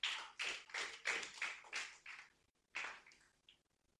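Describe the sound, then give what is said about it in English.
A group claps in unison for a girl who said she wants to be a pilot, with a steady, even rhythm, about seven fairly loud claps, then a short pause and a couple more. No one speaks. “Oh, clap for her. Clap for her.”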